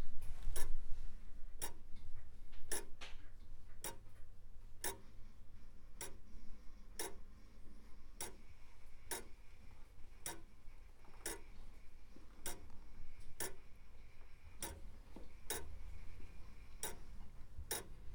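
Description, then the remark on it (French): A Comtoise pendulum clock ticks slowly and steadily, roughly one crisp tick per second, over a faint low hum, with no voices. “Vous avez déjà le son de la comptoise. Ça paraît pas grand-chose. Ça, c'est le tic-tac classique.”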